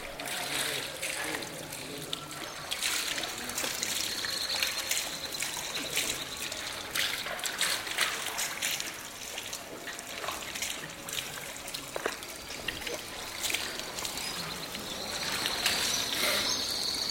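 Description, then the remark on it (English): Water trickles and splashes steadily from a fountain in the courtyard of a Quranic school in a Medina, where men wash their feet, hands and face before praying; a continuous bright babble that never pauses, with faint indistinct voices and occasional high chirps in the background. “Men who live and work in this part of the Medina come here to pray, but before they do, they remove their shoes and wash their feet, hands, and face at the fountain in the school's courtyard.”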